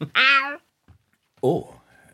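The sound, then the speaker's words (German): A male cat named Long John Silver meows twice, a bright, drawn-out call followed after a short pause by a second, lower meow that trails off into quiet. “Sie haben eine Katze. Ja, das ist mein Kater Long John Silver.”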